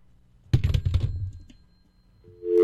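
A telephone handset is lifted with a clattering knock, followed by a quick run of button clicks as a number is dialed to call a friend, then a steady electronic tone rises at the end.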